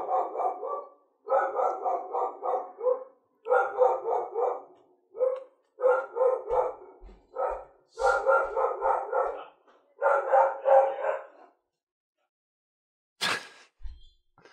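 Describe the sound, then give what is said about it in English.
A dog barks loudly and rapidly in repeated bursts, with brief pauses between volleys and a few sharper yelps near the end, as somebody drops something off on the doorstep. “I'm amazed at how loud that barking was. So somebody wanted to drop something off on our doorstep.”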